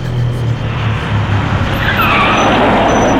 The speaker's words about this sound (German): Plötzlich hielt ein Bus an der Haltestelle.